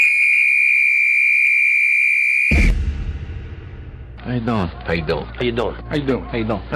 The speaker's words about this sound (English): The clock starts on my whistle.